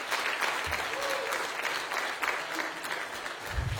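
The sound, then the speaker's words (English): A large group claps steadily during a sermon, a dense, sustained wash of applause with a few voices and low thumps mixed in underneath, holding at an even, fairly loud level throughout. “Somebody give him a hand clap in this house today.”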